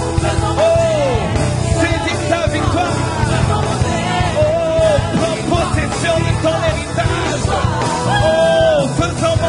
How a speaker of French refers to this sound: Faisons monter les cris de triomphe en ce lieu. Que les murs s'ébranlent. Les murs de Jéricho se sont ébranlés lorsque le peuple a crié, a poussé les cris de victoire. Faisons monter. Faisons monter. Faisons monter. Les cris de victoire.